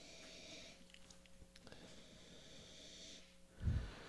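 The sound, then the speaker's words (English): Quiet sniffing as several people smell beer samples, drawing air through their noses in short irregular inhales, with a louder, sharper snort-like burst near the end. No one speaks. “Lots of smelling. We're all smelling voraciously here.”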